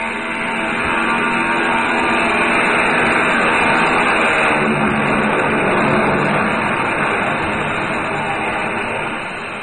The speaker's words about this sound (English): We watched the plane take off, swing in heavy, thundering grace, and head east.